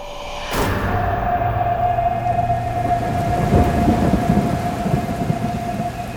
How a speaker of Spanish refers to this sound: El designio de los dioses quiso que así fuera, y una noche de tormenta, relámpagos cayeron sobre el corazón de la planta